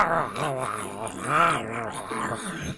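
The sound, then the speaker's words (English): A voice imitates a lion's low, rumbling growl as a lion head eats a takeout box, rising and falling in several drawn-out snarls, moderately loud, with no clear chewing sounds. “Kai Mi Roar's lion head stares at you furiously, but decides to take their anger out on the takeout”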